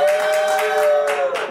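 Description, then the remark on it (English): A late-night show audience cheers loudly to vote 'forgive them', with sustained whoops and yells over a dense patter of clapping, holding steady before tapering off slightly at the end. “If you vote forgive them, make some noise.”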